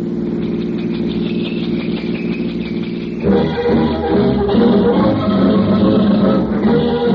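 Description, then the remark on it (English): A car engine idles steadily with a low, even rumble, then grows louder and rougher partway through as it revs up, staying close and continuous with no voices. “At the darkest hour of Christmas night, just before dawn, a roving police car sights an automobile parked at an awkward angle on a dark street.”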